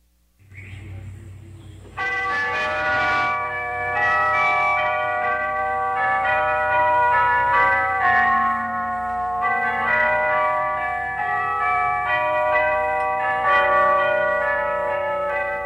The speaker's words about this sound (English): You are listening to the world's largest set of tubular bells from the Stephen Foster Memorial in White Springs, Florida.